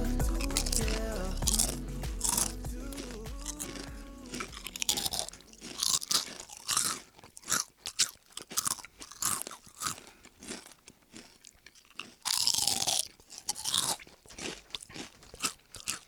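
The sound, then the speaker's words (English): Loud crunching of someone chewing potato chips, with sharp repeated bites and brittle cracks in an irregular rhythm and no talking. “Hey guys, we're recording and we're gonna start with some chewing.”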